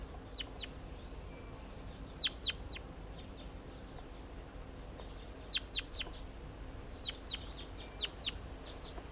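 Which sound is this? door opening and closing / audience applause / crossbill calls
crossbill calls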